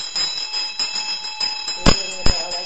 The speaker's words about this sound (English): So that's basically really the only time you ring a bell like that is when you called someone to come and they're appearing.